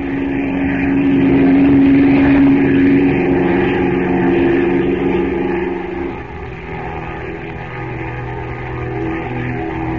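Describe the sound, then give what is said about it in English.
A propeller plane's engine roars as it takes off from a river with two rope ladders dangling from its wings, heading for the Temple of Ashtar; a loud, steady roar with a strong low hum and a sustained droning tone that eases slightly after six seconds, continuing without any voices. “Then the plane roars up from the river, the two ladders dangling below it, and heads for the Temple of Ashtar.”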